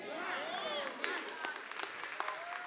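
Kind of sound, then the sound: crowd, audience clapping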